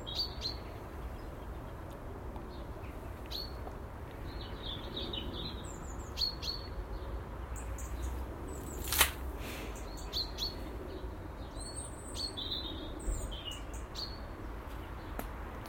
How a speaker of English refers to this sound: Soon be this full blown chorus, full pelt, 360 degree bird song in the mornings. Ah, what a glorious period of the year.